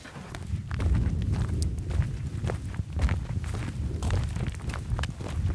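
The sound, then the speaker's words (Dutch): Steady footsteps crunch across the rough ground of a farmyard outdoors, a continuous walking rhythm with a low rumbling background and no one speaking. “We gaan even een stukje lopen.”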